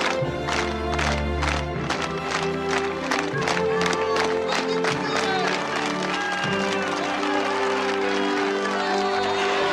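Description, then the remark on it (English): A crowd gives a real slow clap after an athlete's crash: loud individual claps repeat at an even pace, building with a mass of cheering voices and crowd noise underneath. “There was a real slow clap.”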